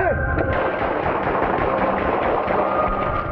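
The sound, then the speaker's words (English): A loud, chaotic stretch of gunfire at 8500 East 41st Street, an extended stay, shots cracking in rapid, uneven succession for about three seconds with harsh, noisy texture throughout and no clear pauses. “Wind 236, hold traffic, shots fired.”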